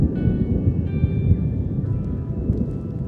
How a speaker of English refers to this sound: Oh, I love thunder so much. I've missed it.